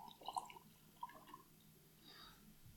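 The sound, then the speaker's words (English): Whiskey is poured into a glass, heard as a few soft glugs and drips followed by a brief, faint trickle of liquid, all quiet. “I guess pour it and then I'll smell it.”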